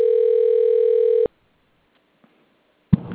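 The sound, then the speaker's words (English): A single ringback tone on an outgoing phone call, a steady buzzy hum for just over a second, then silence until a voice starts speaking at the very end. “Hopefully he answers the phone.”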